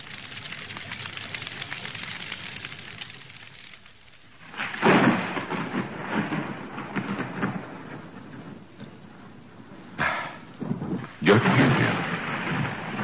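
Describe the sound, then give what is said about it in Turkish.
Low rumbling thunder rolls in over a steady hiss of rain that is picking up, with several louder swells building and fading, one near the middle and others toward the end. “Alem yağmur yağacak.”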